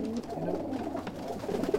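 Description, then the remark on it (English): Racing pigeons coo in a soft, continuous low murmur, several birds overlapping with a steady burbling rhythm and no voices. “Riyad comes in here every day from 4:30 a.m. to feed his pigeons”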